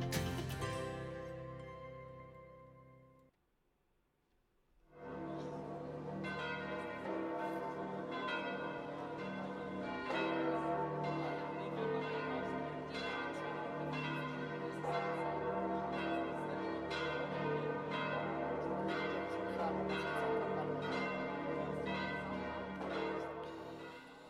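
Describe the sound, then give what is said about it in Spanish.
The church bells of St. Peter's Basilica on Vatican Hill in Rome ring out in a full, overlapping peal, preceded by a lingering bell tone that fades into a brief pause before the loud, continuous clanging resumes and carries on steadily. “Estas son las campanas de la Basílica de San Pedro en el Monte Vaticano, en Roma.”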